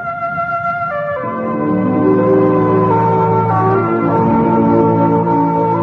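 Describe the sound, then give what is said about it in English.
Radio network identification chimes: a short sequence of clear, bell-like notes stepping between pitches, each ringing and sustaining into the next, loud with no voices. “keep your dial set where you hear the familiar NBC chimes”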